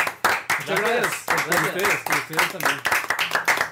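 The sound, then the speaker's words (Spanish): Several people clap in a quick, uneven burst celebrating the Palabra de Gol YouTube channel reaching 100,000 subscribers, the sharp hand claps running throughout while excited voices call out and cheer over them. “Este rato un aplauso, pasamos a 100.000.”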